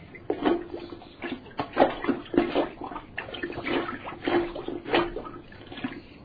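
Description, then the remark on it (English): Repeated wet sloshing and sucking splashes as a plunger is pumped in a clogged, overflowing toilet in a bathroom, a steady rhythm of watery plunges with no talking. “It seems that your toilet is clogged, and that's why it won't flush. Let me just get my plunger.”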